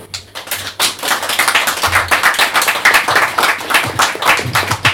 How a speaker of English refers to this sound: Those were the nicest ever clapping after every poem. Jeez, just on and on.